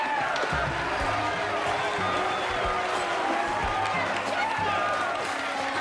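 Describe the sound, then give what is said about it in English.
Townspeople in a courtroom get to their feet and applaud after a not-guilty verdict, steady clapping mixed with a busy swell of excited voices and cheers that holds at a fairly loud level throughout. “the townspeople get to their feet and applaud.”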